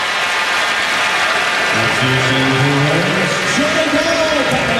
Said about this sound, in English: Another turnover for the Warriors. And James Michael McAdoo. It's a nice round of applause from the faithful here at Oracle.